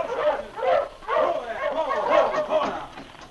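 A team of sled dogs barks and yelps together in a busy, overlapping chorus, loud, with the excited yapping running continuously for a few seconds; the dog team is coming toward Sergeant Preston on the way to Whitehorse.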